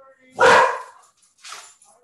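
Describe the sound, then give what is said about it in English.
A female pet dog barks loudly, one sharp burst followed by a shorter, softer bark about a second later, with an excited edge, as the owner's husband comes home after a week away. “My doggy's barking because my husband just came home from his week away with his friends.”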